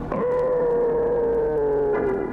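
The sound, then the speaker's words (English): A voice lets out a single drawn-out, tonal growl, imitating an animal. It holds steady and loud for about two seconds, sliding slightly lower before it ends, with no talking alongside. “you shouldn't growl like that”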